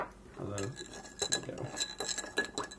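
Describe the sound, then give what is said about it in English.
Giant ice cubes clink and rattle against glass as an old fashioned cocktail of whiskey and bitters is stirred, a quick run of bright knocks with a short murmur of voice near the start. “Giant ice cubes, I was just going to say.”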